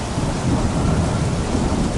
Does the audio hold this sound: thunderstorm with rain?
yes